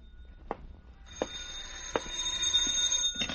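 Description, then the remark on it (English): A telephone rings: a bright, high, steady ringing starts about a second in and keeps going, loud and unbroken, with a few sharp clicks scattered through it and no talking. “A sigh that came from me, the phone ringing that came from the phone.”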